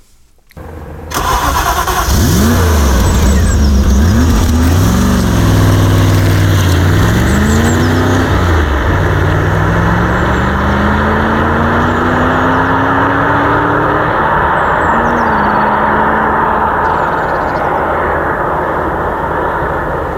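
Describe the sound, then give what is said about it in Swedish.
A loud engine of a drivable prototype car, a V8 built from two 2.0-litre naturally aspirated engines, starts and revs repeatedly, pitch climbing and falling, then settles into a steady rising drone as it pulls away on a small test track at Valmet, unbroken with no talking. “En V8 som ja, i princip sitter ihop med två stycken 2-litersmotorer.”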